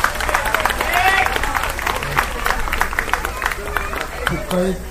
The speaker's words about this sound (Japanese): お祭り会場っていうのはもう何回かあるんですけど、こんなにちゃんと聴いていただいて拍手していただいたのって初めてで、本当になんか嬉しいですね。